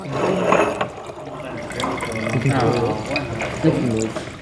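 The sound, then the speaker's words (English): Wine splashes and gurgles as it is poured from bottles, steady, with indistinct voices chattering in the background of a winery's wine tasting room in Sydney, Australia. “At the wine tasting room of Taylor's Wines in Sydney, bottles are uncorked, poured, swished, sniffed, and sipped.”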